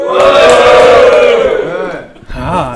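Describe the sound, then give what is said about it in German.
A live audience, asked to make some noise, cheers and shouts loudly for about two seconds, a dense wash of many voices that fades briefly before a second smaller burst of yelling. “Ich weiß nicht, kann man das Publikum hören? Macht mal Geräusch.”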